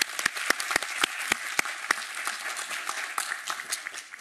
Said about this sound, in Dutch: Ja, applaus voor iedereen.